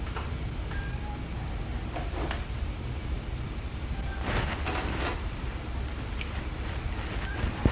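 A cat at a door, making a few short bursts of scratching and rattling against a steady background hiss. The sounds are not loud, and no one speaks.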